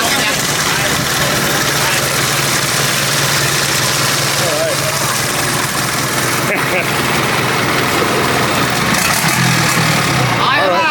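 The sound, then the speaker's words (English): A boat engine idles loudly, a steady rumbling drone that holds for the whole stretch, with faint voices murmuring beneath the noise. “I like the engine. Show the engine.”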